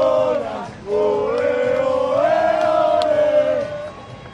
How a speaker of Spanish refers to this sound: Increíble el grito de campeonas, campeonas en la grada.